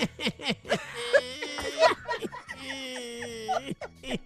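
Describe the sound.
A voice mimics crying on the Steve Harvey Morning Show, letting out long, wavering wails with a strained, sobbing pitch that rises and falls in drawn-out bursts across the whole clip.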